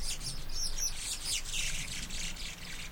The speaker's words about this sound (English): It's this funny kind of broadband squealing noise. They started out with kind of some squeaks, and then the two birds will squeal in a way where they're overlapping each other and doing it simultaneously.